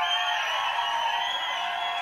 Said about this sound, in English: I've never heard such loud whistling in my life. That's unbelievable.